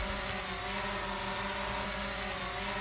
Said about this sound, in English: Sorry, I couldn't hear you over the sound of my drone flying. I'll turn it off and get back to the episode now.